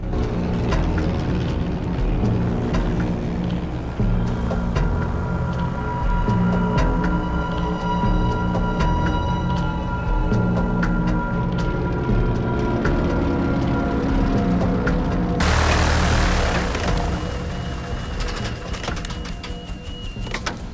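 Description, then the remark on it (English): A steady, droning engine hum runs throughout, a single-engine propeller plane in flight over the sea, with a brighter rushing burst of air or wind near the end. “pilots the single-engine plane over the sea.”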